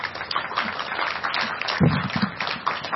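A steady round of clapping from a group of people, dense and continuous for a few seconds, moderately loud without any talking over it.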